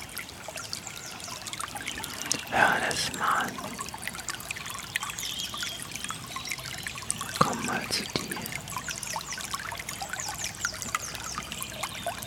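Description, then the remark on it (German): Water trickles steadily throughout, with a couple of brief louder splashes early on and midway. A voice says a few quiet words over the flow. “und trotzdem, währenddem wir das machen, ist doch irgendwo die Natur und sagt, Alter, mir doch egal, ich plätschere jetzt hier.”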